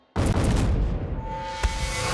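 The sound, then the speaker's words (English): A sudden deep, muffled blast of bombs going off in Hitler's bunker erupts and rolls into a long low rumble, with a brief sharper crack partway through as the roar lingers, heard alone with no voices. “That's when they heard the muffled explosion.”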